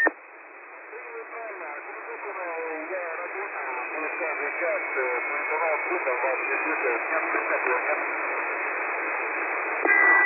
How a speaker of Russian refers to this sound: Я слышал, вы вызывали, но я не мог разобрать информацию. Слышал вас на единицу с помехами, очень плохо, прием.